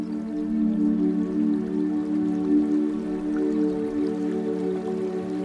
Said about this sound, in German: Von weitem hörst du das Rauschen von Wasser.